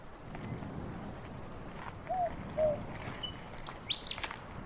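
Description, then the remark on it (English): A willy wagtail sings in short chirpy bursts, a few quick whistled notes and then a cluster of sharper calls, against a steady hiss of night insects and faint low rumble. “That's a willy wagtail, not a night parrot.”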